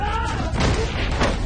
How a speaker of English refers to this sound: Luke falls through an open vent. He slams onto the floor below.